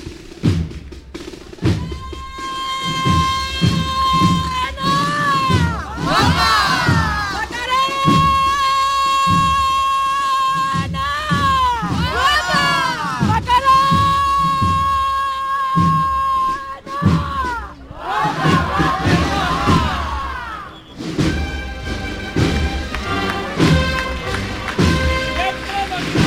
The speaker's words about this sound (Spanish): Con toda la fuerza, los costaleros, y con toda la fuerza, el aplauso.